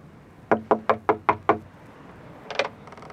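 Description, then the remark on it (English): Six firm, evenly spaced, loud knocks on a wooden door, followed by a pause and a brief rattling sound as the unlocked door is tried or pushed. “The door isn't locked anyway.”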